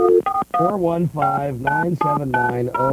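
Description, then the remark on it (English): A quick run of telephone keypad dialing tones as a phone number for Leather Buddies is dialed, short beeps in rapid succession, loud, with a voice blending in among them. “we've been trying to call it now, and we can't get through.”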